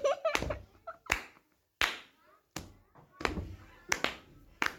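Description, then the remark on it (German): A series of about eight sharp, crisp hand claps by a female teacher before a maths lesson, in an uneven rhythm, each followed by a brief ringing decay, with faint murmuring voices in the background at the start. “Sie packen das Frühstück weg und hören genau den Klatschtönen der Lehrerin zu.”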